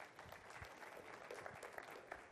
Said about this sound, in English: Midge, yeah, clap for them guys.